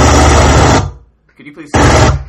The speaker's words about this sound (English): You know, I never thought that a man with a jackhammer would be so loud and interrupting. A man with a jackhammer. Yes, you. Could you please stop using your jackhammer?